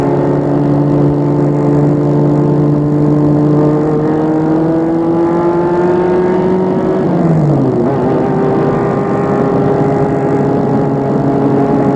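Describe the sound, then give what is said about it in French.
A car speeds past at high speed on a road about 5 km from Le Meutier, overtaking another driver, its loud engine whine climbing steadily before the pitch drops sharply as it passes, then a lower hum continues. No one speaks. “une voiture qui file à vive allure dépasse Émile”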